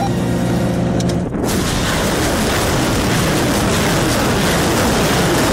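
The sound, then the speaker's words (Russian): A steady tonal engine hum gives way after about a second to a loud, sustained roaring rush of a Uragan multiple rocket launcher fired at a target by a Ukrainian Armed Forces crew in Mykolaiv region, the harsh blast continuing unbroken to the end. “ВСУ показали расчет боемашины системы залпового огня «Ураган», который защищает Николаевскую область и не дает российской армии подступиться со стороны Херсонщины.”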